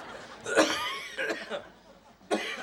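man coughing

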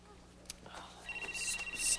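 mobile phone ringing

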